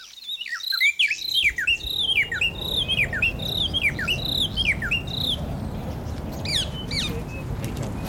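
birdsong

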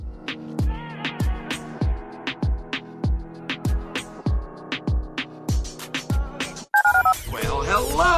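telephone keypad dialing tones

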